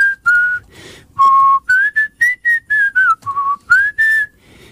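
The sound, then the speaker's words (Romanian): A bright, breathy melody played on a fluier (folk flute), fairly loud, moving through short phrases of held and quickly rising notes with brief gaps between them, with no talking. “care poate să ți-l cânte la fluier.”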